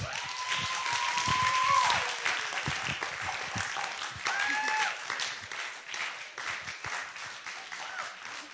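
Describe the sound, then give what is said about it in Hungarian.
A crowd applauds steadily for several seconds to welcome a speaker onto the stage, a dense wash of clapping that stays fairly even throughout, with a few faint whistles or cheers rising above it. “Szóval kérlek, hogy egy nagyon nagy szeretettel és nagy tapssal köszöntsétek most itt a színpadon”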